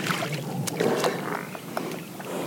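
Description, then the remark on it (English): A small boat glides through shallow marsh water on a short boat ride, with steady splashing and lapping around the hull, occasional sharper drips and knocks, and a soft breezy hiss in the background. “But a short boat ride from here, there exists a very different sight. We dock in an area where this fertile scene stops, dead.”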